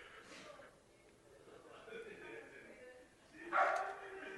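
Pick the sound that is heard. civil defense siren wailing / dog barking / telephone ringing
dog barking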